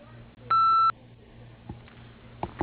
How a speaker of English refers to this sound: Hi, you've reached Lundy Enterprises, Gun Drilling of Florida. We're unable to come to the phone at the moment, but if you leave your name, number, and message after the tone, we'll get back to you just as soon as we can.